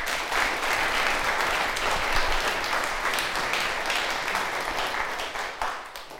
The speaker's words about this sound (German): Dank für den Sonntag heute, Dank für den Gottesdienst, danke, dass ihr alle da wart und danke an alle Menschen, die geholfen haben, dass dieser Gottesdienst heute so stattfinden konnte. Gebt doch mal einen Applaus dafür.